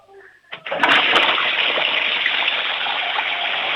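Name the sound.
toilet flushing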